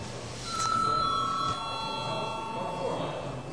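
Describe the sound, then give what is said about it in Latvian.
A parliament voting bell rings before deputies vote, in one continuous, steady electric peal, high and bright, while a low murmur of voices carries on underneath. “Tā kā kārtības rulē prasības ir bijušas ievērotas, bet tā kā nu, jums ir šāds lūgums, tā tad lūdzu zvanu.”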